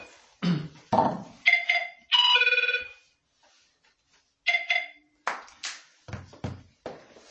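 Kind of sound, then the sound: signal or alarm, phone ringing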